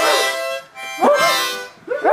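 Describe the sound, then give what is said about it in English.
Children blow, breathe, huff and bark into brand-new harmonicas, making loud, reedy chords that swell and break into yelping, howl-like swoops, several instruments wheezing at once with no talk. “I'll spare you most of the sound, but kids are blowing, breathing, huffing, talking, and even barking into their new instruments.”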